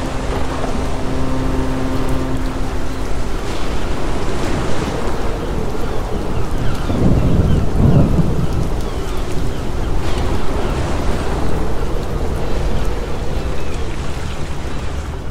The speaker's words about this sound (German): Der kühle Herbstwind bringt das kleine Boot zum Schwanken.